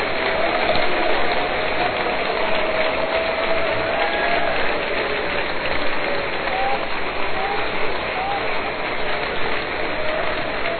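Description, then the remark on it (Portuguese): A crowd claps steadily for several seconds in praise of the Lord, a dense, continuous wash of many hands applauding at once, fairly loud, with faint voices rising now and then beneath it. “Vamos aplaudir o Senhor e celebrar seu nome. Aplauda o Senhor.”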